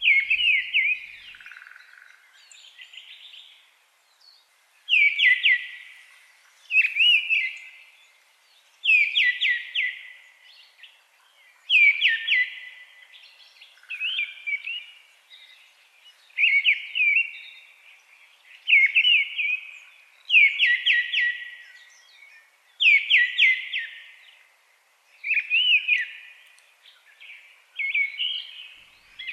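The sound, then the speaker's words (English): A thrush sings alone in short, fluty, varied phrases, about a dozen of them separated by brief pauses, clear, with a wild, unrestrained quality, not repeating phrases the way a song thrush does and flowing more like a blackbird. “In terms of the flow of it, it's a bit more like the blackbird, but it's a wilder sound.”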